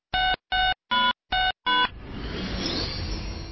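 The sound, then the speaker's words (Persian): Five evenly spaced telephone dialing tones beep in quick succession, loud and clear, then give way to a steady hiss of line noise as the call connects. It is an incoming phone-in question to the programme Porseman, which answers religious questions. “یه سوال تلفنی داریم، اتاق فرمان میریم و برمیگردیم.”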